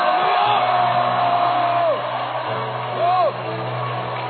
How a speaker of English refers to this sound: The pain is gone. Amen. Jump and shout and scream. The pain is gone.